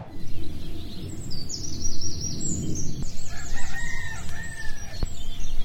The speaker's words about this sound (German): Vögel zwitschern vor dem Fenster, leichter Heugeruch liegt in der Luft und der Wald, der fängt direkt hinter dem eigenen Garten an.